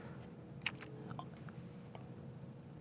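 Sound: computer keyboard key presses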